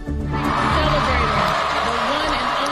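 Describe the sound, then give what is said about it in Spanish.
A large audience at Kamala Harris's rally in Houston, ten days before the US presidential election, applauds and cheers without pause, a loud, dense roar of clapping mixed with whoops and shouting voices, and a faint sustained tone beneath. “Así aplaudían los asistentes al mitin que Harris ha dado en Houston.”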